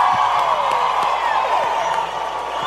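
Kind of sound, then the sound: crowd, crowd applause and cheering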